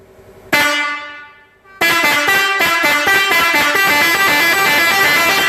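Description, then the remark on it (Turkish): A loud vehicle horn with a slow and a fast setting sounds one blast that fades away, then blares again in a long sustained honk with a steady, rapid pulsing rhythm. No one speaks. “şimdi diğer kornamız gemi kornamız”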